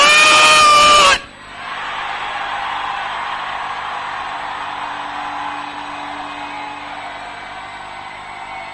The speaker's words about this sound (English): If I shout once, scream that fire very loud. If the fire don't fall where you are standing, it means you didn't break that fire. Louder than your neighbor.